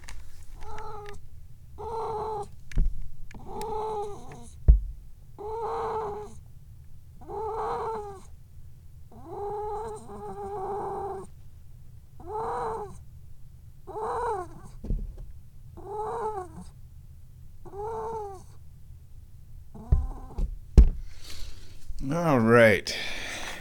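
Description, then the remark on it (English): A cat meows over and over, about a dozen drawn-out, wavering calls in a steady rhythm above a low, continuous purr, ending with a sharper, rising cry. “Are we going to get some kitty noises today?”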